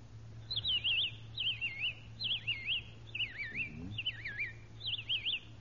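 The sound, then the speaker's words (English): A voice imitates a robin's song with six quick, warbling whistled phrases in a steady rhythm, clear, over a faint low hum, with no talking. “A robin. Robin?”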